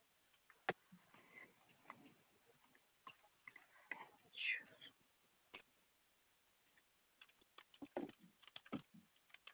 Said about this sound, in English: I'm here. I'm just typing.